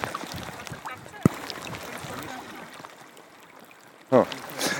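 Gulls give a couple of short, harsh calls near the end, over a steady outdoor wash of wind and water, with one sharp knock earlier.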